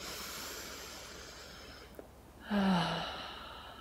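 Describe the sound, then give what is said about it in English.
A single deep breath drawn in at the start of a meditation, airy and fairly loud, lasting about half a second with a faint low voiced tone, set against a steady hiss after a brief quiet moment. “And we'll start the meditation with three nice deep breaths, followed by three nice deep sighs.”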